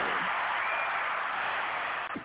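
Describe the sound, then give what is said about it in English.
A crowd roars with sustained yelling and cheering, a dense, steady wall of voices that stays loud throughout and dips briefly right at the end. “The people is yelling for you.”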